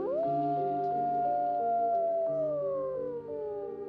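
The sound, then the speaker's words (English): Gray wolves howling together, several long overlapping tones holding steady before one slowly glides downward; a loud, continuous chorus with no talking. “So this is where the wolves come in.”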